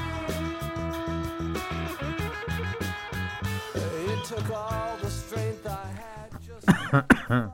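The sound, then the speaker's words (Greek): A person who has choked coughs a few sharp, loud times near the end, following several seconds of rhythmic background music with a steady beat that keeps playing beneath them. “Βήχο. Πνίγηκα.”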